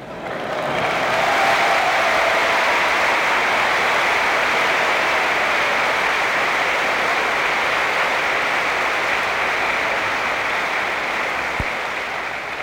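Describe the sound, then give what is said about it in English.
Sustained audience applause at Kent State University, a dense wash of many hands clapping that stays loud and steady for the whole stretch, with no voices rising above it. “I want to say if I can get half as much applause and one half as warm a reception at the Democratic National Convention as I got here today, I'm in.”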